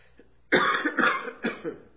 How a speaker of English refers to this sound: Excuse me. As you can hear, I've had this junky cough for weeks.